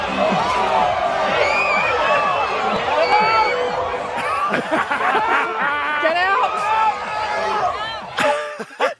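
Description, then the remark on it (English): A large crowd of about 40 people at a line dancing competition shrieks and yells as a bull enters and charges the dancers, a dense, continuous roar of many high-pitched voices, loud throughout, with a brief dip and a final burst just before it cuts off. “And then you'll hear the screams as the ball enters.”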